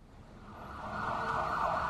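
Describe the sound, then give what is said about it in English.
An ambulance siren wails in a steady, sustained tone, growing louder as it approaches over low traffic rumble, with no voices present. “The ambulance couldn't find the apartment because the apartment didn't have a number on it.”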